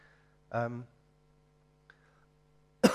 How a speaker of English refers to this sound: I'm going to cough like that.